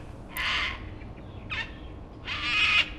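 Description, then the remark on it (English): Three harsh, raspy cockatoo screeches from cockatoos in gum trees, two long and one shorter in between, ring out loudly over a low, steady background rumble, with no one talking. “For days now, we've sat out on the deck, under gum trees and screeching cockatoos, sorting through these piles.”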